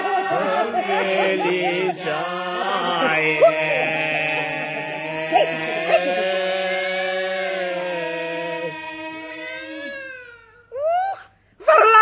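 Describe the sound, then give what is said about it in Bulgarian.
A cat that has climbed onto the window yowls in a long, wavering, drawn-out wail, its pitch sliding up and down, then breaks off into a couple of short rising meows at the end. “Котка на прозореца ни се покатерила.”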